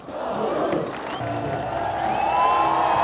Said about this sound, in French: Voilà, Magnus, la foule l'applaudissait comme s'il avait ou revêtu le maillot jaune ou gagné l'étape. Premier donc maillot à poids de ce Tour de France.